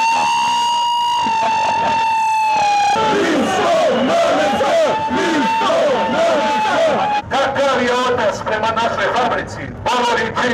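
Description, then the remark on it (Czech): A crowd of protesting Zastava Arms workers from the Kragujevac factory shouts and chants "thieves, thieves" loudly together outside the parliament building, many voices overlapping; a steady, high whistle-like tone sounds at the start before the chanting takes over. “Radnici Zastava oružja pred zgradom parlamenta vikali su lopovi, lopovi, mi smo namenske i podizali crvene kartone za vlast zbog usvajanja tog zakona.”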